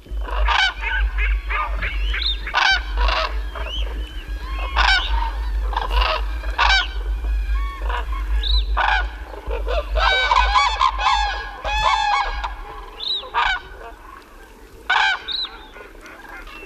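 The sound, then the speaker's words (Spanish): A flock of cranes calls at a night roost in water in Ciudad Real, La Mancha, at 4 a.m. A dense chorus of many overlapping loud, trumpeting calls comes in rapid irregular bursts over a steady low rumble, with no pauses for the whole stretch. “Y yo estoy delante de una bandada de grullas en el dormidero, preguntándome a las 4 de la mañana cuándo duermen estos bichos.”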